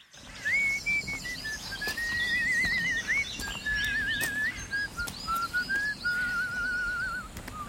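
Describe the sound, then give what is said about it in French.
Someone whistles a melody alone, a clear, fairly loud, steady line with wavering trills on the held notes, over a faint background hiss and a few soft knocks. “Avant, le sifflet, on l'entendait partout.”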